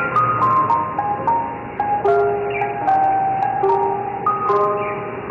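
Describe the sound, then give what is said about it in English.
An ice cream truck jingle plays a bright, tinkling melody of stepping notes at a steady tempo, fairly loud and continuous with no voices over it. “But a big ice cream truck bust went down in Gotham.”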